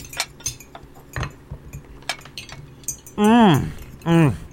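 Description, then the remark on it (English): Several light glass clinks ring out at uneven intervals, followed by two short voiced calls, as people at a table toast to family and friends. “So, cheers.”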